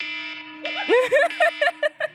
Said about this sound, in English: I have to tell you that I never remember to change my phone alarm sound away from that, so that is the nightmare noise that wakes me up every single morning.